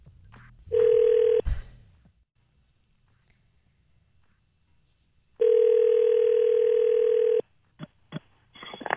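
A phone call from the John, Jay, and Rich Show rings out over the line: a steady buzzing ringback tone sounds twice, about four seconds apart, after brief clicks of dialing, then sharp clicks and rustles as the line connects.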